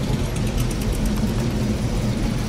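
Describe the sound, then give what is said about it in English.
A 1968 Mustang's engine runs at a car show with a steady, deep rumble, holding an even idle for the whole stretch with no voices over it. “Well, so tell me what you're driving here. 68 Mustang.”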